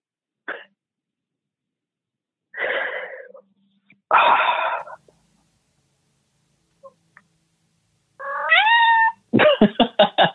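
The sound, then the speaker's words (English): A cat meows several times with pauses between calls, some breathy and raspy, ending in a rising drawn-out meow and a quick run of pulsing cries. No one speaks. “At least I have this cat here to take care of me.”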